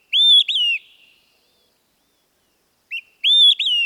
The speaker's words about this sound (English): Well, they use whistle, for example, to describe the sound of an olive-sided flycatcher.